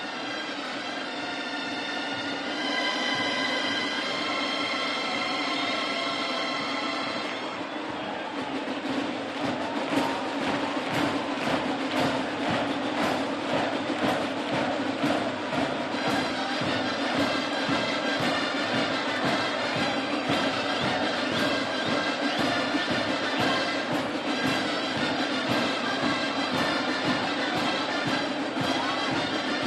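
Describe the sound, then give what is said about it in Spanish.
Live outdoor ambience of the busy Plaza Consistorial during the San Fermines festivities, after the chupinazo: steady loud crowd noise with rapid rhythmic beats throughout, opening with several seconds of sustained high tonal notes above the din. “Así suena en estos momentos la Plaza Consistorial, que poco a poco también se va descongestionando como la Plaza del Castillo, aunque todavía aguanta, ¿eh?”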